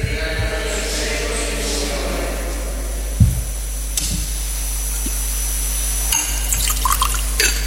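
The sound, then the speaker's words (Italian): During Mass, a small amount of water trickles softly into the wine in a chalice against a steady background hiss, with a few faint clinks and taps of vessels and no one speaking. “L'acqua unita al vino sia il segno dell'unione con la vita divina.”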